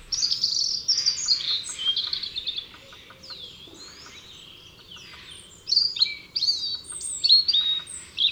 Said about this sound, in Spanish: Y sobre la rama hay dos vistosas aves posadas. Un tranquilo petirrojo desgrana de forma incansable una melodía de trinos melancólicos.